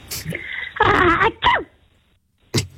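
A caller's single sneeze over a thin telephone line into a radio phone-in: a rising breath builds into a loud, sharp burst, followed by a short trailing vocal sound and a brief noise moments later.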